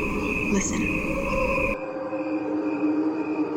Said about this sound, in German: What you are hearing is a recording of crickets. There are 2 tracks. One is played at regular speed and the other is a slowed down version. What you are hearing are the crickets only. No instruments or voices are added.